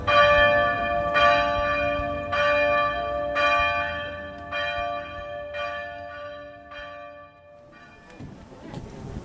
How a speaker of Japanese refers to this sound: 静かな鐘の音が響く風景は、函館らしい穏やかな時間を感じさせてくれます。